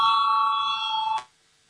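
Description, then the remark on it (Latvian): A parliamentary voting bell, rung to call a vote on proposal number 86, rings with a steady, bright electric tone for just over a second, then cuts off abruptly into silence. It is fairly loud, with no voices over it. “Lūdzu zvanu balsosim par 86.”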